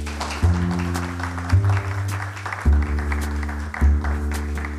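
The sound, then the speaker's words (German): Audience applause, a steady crackling patter of many hands, blends with a loud instrumental music bed that shifts chords roughly every second. No one speaks. “Und einen Applaus für Dorothea Lüdekens und Dunja Shabat-Da.”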